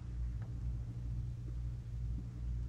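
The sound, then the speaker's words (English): Deep, continuous rumbling of thunder rolls steadily throughout, low and heavy with no sharp crack, unbroken with no voices present. “As we awe, the thunder speaks and the lightning etches the promise on the farthest slate of heaven.”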